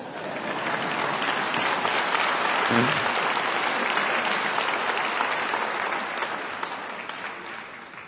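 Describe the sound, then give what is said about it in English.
Sustained applause from a sizable audience, many hands clapping in a dense, steady wash that holds loud for several seconds before gradually thinning and fading toward the end. “Now, why didn't you clap there?”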